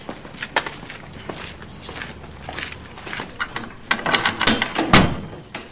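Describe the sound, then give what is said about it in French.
Footsteps shuffle and tap on a hard floor, growing louder, ending with a few heavier knocks and a brief creak as people bend to enter a small museum of the Burmese regime's horrors through a small half-height door like a dungeon door. No one speaks. “Et pour entrer dans le musée, il y a une petite porte, comme une porte de cachot, qui est à mi-hauteur. Alors voilà, nous entrons.”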